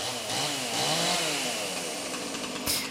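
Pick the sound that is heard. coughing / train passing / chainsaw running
chainsaw running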